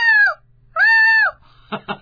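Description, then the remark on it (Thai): A person imitates the trumpeting of a male herd-leader elephant: two loud, high, brassy blasts, each held briefly before sliding downward, followed by a couple of short, rough, sputtering bursts. “อ่ะถ้าช้างตัวผู้แบบเป็นจ่าฝูงจ่าโขลงเสียงต้องมีอำนาจกว่านี้อีกหน่อยนึงทิ้งท้ายหน่อยนึง”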